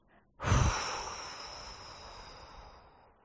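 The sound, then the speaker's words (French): A single strong breath blown out through the mouth while releasing facial muscle tension after holding the breath, starting with a sharp, breathy burst and trailing off into a long, steady hiss that fades over about three seconds. Fairly loud, no talking. “Et vous expulsez tout en relâchant la pression musculaire et en soufflant fort par la bouche.”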